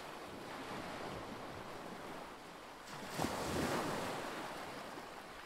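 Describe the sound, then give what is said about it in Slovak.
Sea waves roll onto the shore in a steady, wide roar, with one wave swelling and crashing louder just past the midpoint before easing back. There are no voices. “Dobehol Janko k moru.”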